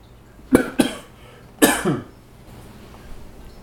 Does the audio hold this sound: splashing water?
no